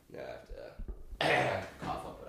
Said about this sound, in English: But hold on one second, I have to clear my throat.